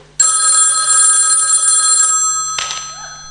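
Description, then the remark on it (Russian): A loud telephone bell rings in an apartment at 4:30 on a Sunday morning, one sustained burst of about two seconds, bright and metallic, then cuts off, followed by a brief clatter like a receiver being picked up. “В какой-то квартире звонит телефон.”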